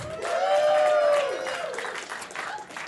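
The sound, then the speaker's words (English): Sustained audience applause welcoming the author on an erotic fan fiction panel, a dense wash of many hands clapping at steady loudness, with cheers and a rising-then-falling whoop riding over the clapping early on. “Please give a round of applause to our erotic fan fiction author”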